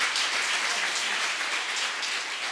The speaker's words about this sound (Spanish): Quiero que recibamos con un fuerte aplauso al maestro Sergio Aguirre en los teclados y al maestro Marianito Rodríguez en la percusión y en la flauta.